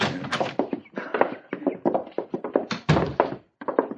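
door being opened

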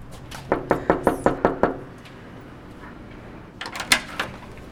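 knocking on a door

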